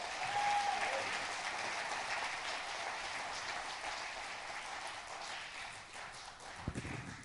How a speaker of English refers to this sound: You guys give him a hand clap of appreciation.